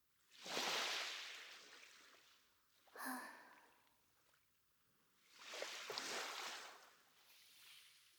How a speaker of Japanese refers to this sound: どう？海にとって癒しの鉄板みたいなところはあるけどさ、やっぱ改めて聞いてみると気持ちが落ち着くよね。